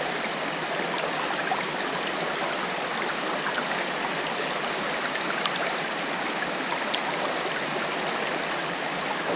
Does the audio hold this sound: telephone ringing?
no